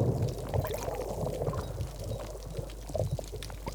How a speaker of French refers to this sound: J'écoutais le bruit du ressac sur les rochers. Je sais pas comment décrire ce bruit. C'est comme, enfin, on entend une sorte d'écho, quoi.